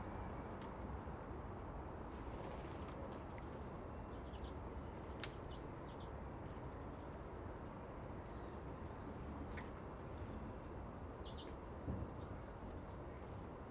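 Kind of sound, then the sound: bird, birds chirping outdoors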